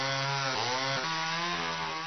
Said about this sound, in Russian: И пилит, и пилит, и пилит.